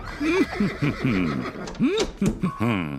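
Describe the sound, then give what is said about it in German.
A horse neighs loudly, a long run of shaky, wavering whinnies with snorting breaths between, lasting the whole moment without any talking. “Jetzt könnte man meinen, wenn man ihn so wiehern hört, der Beethoven wäre ein richtiger Stinkstiefel.”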